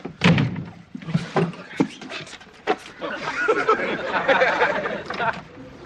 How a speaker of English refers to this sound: Look, as soon as the Weezy goes, I'll get you out. What? Well, you hear the door slam, okay?